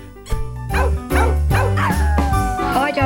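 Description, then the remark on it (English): A dog yips and squeals excitedly while playing with a squeaky, egg-shaped wubba toy with a long tail, a rapid run of about five high, wavering bursts over a low rumble, fairly loud. “It's a egg-shaped toy with a long tail, and as you can hear, she absolutely loves it.”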